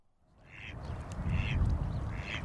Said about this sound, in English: The Riparian Preserve in Gilbert is the perfect place to watch ducks. Most of the ducks here are mallards, with deep green heads or speckled brown wings.